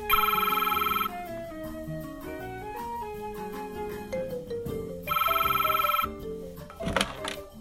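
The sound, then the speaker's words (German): A telephone rings twice on an outgoing call, two bright trilling bursts about four seconds apart, with steady music playing underneath throughout. A radio host is calling a contestant's number live on air for a phone-in prize quiz. “Und hier habe ich gleich eine Telefonnummer direkt auf dem Schreibtisch liegen.”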